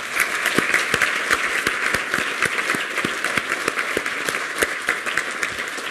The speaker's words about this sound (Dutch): Maar hoe dan ook, vraag ik u wel even een applaus voor de 8 die hebben meegedaan.